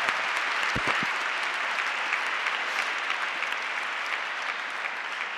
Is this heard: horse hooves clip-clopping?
no